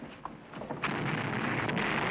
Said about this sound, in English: Guns are exploding all over the hillsides. Rot my guts, the cannons are blowing up.